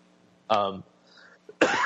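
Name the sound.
coughing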